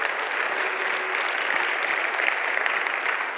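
Steady applause from a large group fills the room, a dense wash of many hands clapping at once with no pauses, sustained and fairly loud throughout.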